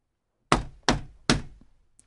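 Three firm, evenly spaced knocks on a wooden shop door, fairly loud, each with a short resonant decay, followed by a faint click.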